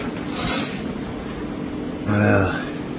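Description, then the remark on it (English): A short, breathy spit from a person who is sick bursts out once, followed a moment later by a brief voiced throaty noise, with no one speaking. “And spit.”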